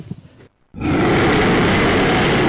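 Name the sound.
dinosaur roar sound effect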